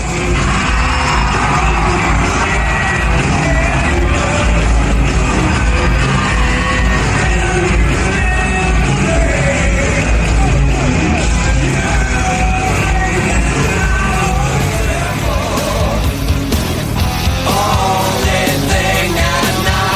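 A huge crowd roars and yells nonstop, loud and dense, with whoops and shouts layered over a constant wall of cheering that never lets up for the full stretch.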